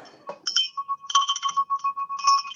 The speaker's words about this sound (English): We're ringing bells. You want to hear me ring a bell?